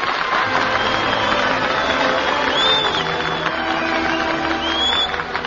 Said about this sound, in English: We give our applause where it is really deserved.